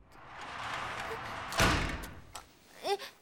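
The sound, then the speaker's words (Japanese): The door of a gymnasium storage room is shut with a single heavy slam that cuts through a steady background hiss, followed by brief faint rustles and a short squeak. “なんで扉を閉めて。”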